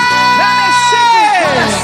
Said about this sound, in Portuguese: Cadê o grito das mulheres apaixonadas?